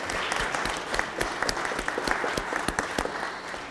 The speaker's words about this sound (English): Look at that. How about an applause to show our thankfulness for that?